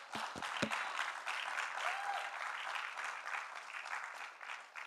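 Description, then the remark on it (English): A crowd breaks into spontaneous, steady applause for police officers and firefighters, dense overlapping clapping that holds at an even loudness throughout, with a few sharp individual claps standing out at the start. “They didn't have to tell you to clap.”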